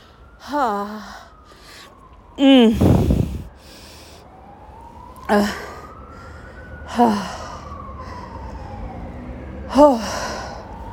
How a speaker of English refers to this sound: That is the trip out of my building when the fire alarm is going off.